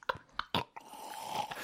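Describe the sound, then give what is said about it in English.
Wet mouth sounds of someone drinking water: a few quick gulps and swallows at an irregular pace, with a soft sip between them and no talking. “Hold on, I need a drink of water.”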